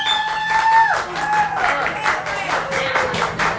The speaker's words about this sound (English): Everybody's clapping, so we're winning right now. The winning streak continues, yeah. And the crowd is happy.